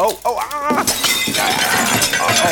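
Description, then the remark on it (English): A short voiced cry, then a box of old mugs hits the floor in a loud, sustained crash, with ceramic shattering and many bright clinking pieces scattering and ringing for about two seconds. “A box full of mugs? Why were we keeping a box full of old mugs?”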